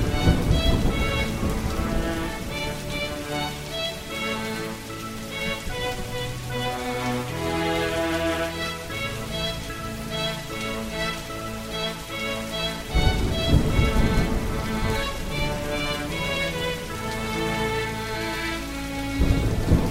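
Steady rainfall hisses throughout, mixed with sustained musical tones, and deep rumbling swells near the start and again about two-thirds through.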